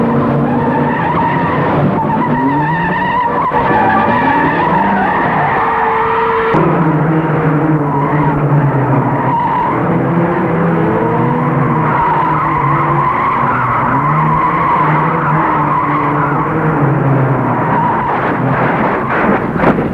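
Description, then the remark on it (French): Car tires screech loudly and continuously in a road accident caused by driving the wrong way down a one-way street, the squeal rising and falling in pitch over a roaring engine, sustained for the whole stretch with no voices. “Un jour, la tête dans le vague, je pris un sens interdit et provoquai un accident.”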